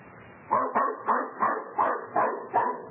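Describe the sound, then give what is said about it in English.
A dog barks excitedly while chasing a cat, a rapid, steady series of about seven sharp yaps, fairly loud, with no voices or other sounds around it. “The old gent let him try to trot along to the drugstore, but suddenly a cat came along and off went the dog down the block and around the corner.”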